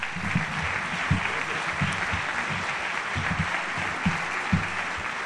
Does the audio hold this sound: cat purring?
no